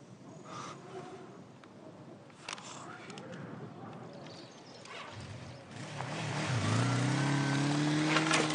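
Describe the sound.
A motorcycle engine revs up and roars, its pitch climbing as it grows loud in the second half, after a stretch of murmuring voices and background noise.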